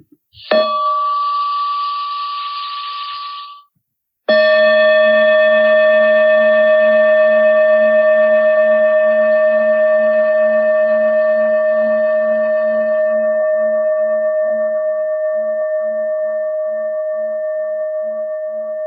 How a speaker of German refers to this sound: Und jetzt werde ich eine Glocke einladen.